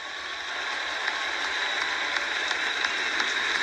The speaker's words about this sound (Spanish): Así que para los peticeros, otro aplauso.